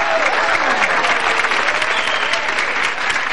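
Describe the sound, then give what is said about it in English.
A crowd applauds loudly and steadily for three finalist couples in a dance contest, a dense wash of clapping that holds at full strength for a few seconds with no break, a little faint cheering mixed in. “A rousing round of railing applause for our 3 fabulous finalists.”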